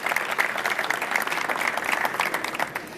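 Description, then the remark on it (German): An audience claps steadily throughout, a dense patter of many hands at a fairly even, moderate loudness with no voices standing out, applauding a speaker onto a stage. “Und ja, ich würde euch herzlich einladen, sie hier auf der Bühne ein bisschen Applaus zu geben.”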